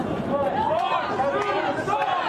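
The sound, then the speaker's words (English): A loud, boisterous crowd chanting 'Fox News sucks', many voices blending into a dense, steady roar that stays at a constant high level throughout. “We're keeping a respectful distance, but a loud and very boisterous crowd.”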